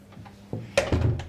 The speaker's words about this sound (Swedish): Ska jag stänga dörren till klädkammaren här.